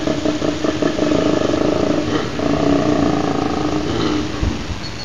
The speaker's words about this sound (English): sent this in from Western Brisbane, and yes, it's a koala. What a ripper.